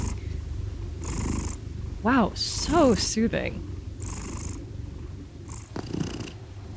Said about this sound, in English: I was inspired by my own two cats, Calvin and Hobbs. When I have bad insomnia, their purrs are pretty much one of the only things that can lull me to sleep.